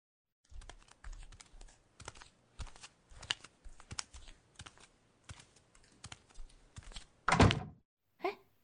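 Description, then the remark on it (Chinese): A run of soft, uneven clicks and knocks gives way to a door being shut with a heavy thud near the end, then one brief latch-like click. “你关门干什么？”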